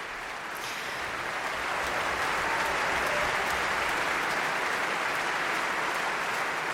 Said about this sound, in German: hier auf der Bühne der Berliner Philharmonie, um nochmal die einzelnen Instrumentalgruppen und Musikerinnen und Musiker hier darum bittet, aufzustehen, ihren Applaus entgegenzunehmen in der gut gefüllten Philharmonie heute Abend in Berlin.